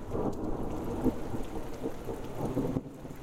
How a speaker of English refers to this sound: If you've ever been to the Midwest Plains during the summer months, you probably felt right at home Monday night in the Upper Lynn Canal. But for longtime residents, the booming thunder and crashing lightning was a unique weather experience.